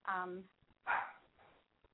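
A small dog gives a few quick, high-pitched barks, one tonal yip followed by sharper, louder yaps, clear over a quiet background.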